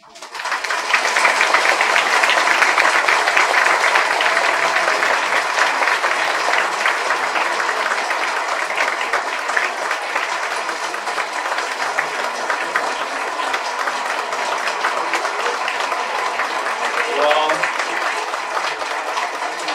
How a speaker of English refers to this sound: I guess we've all learned a lesson about applauding real hard.